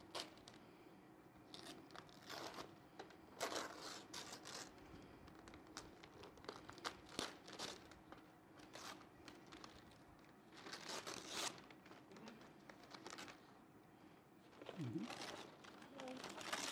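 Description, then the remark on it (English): Wrapping paper crinkles and tears in a series of quick, uneven rips as a gift, a Trouble game, is opened, with rustling between bursts and a faint murmur of voices in the background. “I want you to have this gift. Please open it.”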